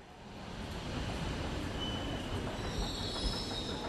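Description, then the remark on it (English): A subway train in Brussels, Belgium, rumbles steadily along the rails, loud, with a dense low roar and faint high-pitched wheel squeal drifting above it throughout. “Molenbeek is just a quick subway ride away from downtown Brussels”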